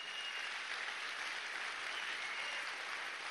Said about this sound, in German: Geben wir ihm einen fetten Applaus.